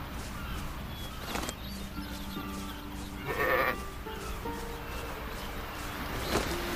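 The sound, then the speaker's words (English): A sheep bleats a few times, wavering calls rising over a steady hiss of background noise, with one louder bleat midway and a short one near the end. “Die, sheepy. Time to die.”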